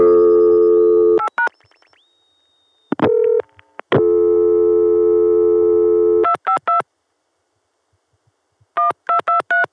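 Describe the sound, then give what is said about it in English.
Telephone line tones from a crossbar PBX in the Chicago sector, reached through a Watts line and the Chicago tandem: a short ringback burst gives way to a longer sustained ring tone in a regular pattern, with clusters of quick electronic dialing beeps before and after and no voices. “When it first starts to ring, there's a short little ring burst, and then the ring falls into a regular pattern.”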